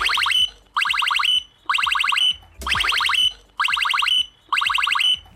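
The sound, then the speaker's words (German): A blackbird in Kiel, Germany, mimics the alarm tone of Bolt e-scooters: six shrill, buzzy electronic-sounding bursts repeat in a steady rhythm with short gaps, loud and alone with no talking. “Diese schrille, sich wiederholende Tonfolge hört sich tatsächlich eins zu eins wie das Alarmgeräusch der E-Scooter des Anbieters Bolt an.”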